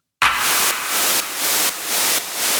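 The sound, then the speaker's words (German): Loud, steady white noise hisses throughout, layered with a clap sample on a regular beat about every half second, five hits in all, each slightly brightening the noise; a transition effect being built in music production. “Also unser Rauschen und der Clap zusammen machen dann Folgendes.”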